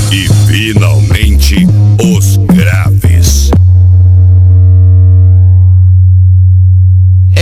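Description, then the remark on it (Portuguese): A loud, deep bass sine test tone hums steadily through the whole stretch, with warbling, voice-like tones over it for the first few seconds before the low drone continues alone. “Muito grave.”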